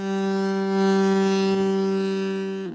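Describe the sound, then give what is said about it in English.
A novelty car horn sounds a single sustained, brassy blast, holding one steady low pitch with buzzing harmonics for nearly three seconds, loud and unbroken, then cuts off abruptly. “But in actuality, it sounds like you're laying on a horn.”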